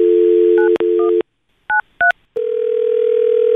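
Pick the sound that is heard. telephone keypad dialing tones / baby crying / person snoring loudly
telephone keypad dialing tones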